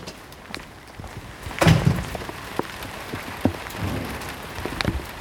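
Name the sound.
rain falling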